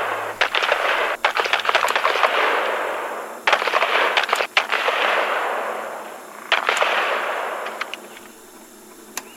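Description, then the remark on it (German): Bursts of gunfire crack out in several rapid clusters, each followed by a rolling, echoing wash, then trail off into fainter scattered shots near the end. No one speaks. “Die Schüsse werden mehr und mehr.”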